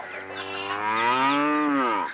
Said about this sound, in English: A cow.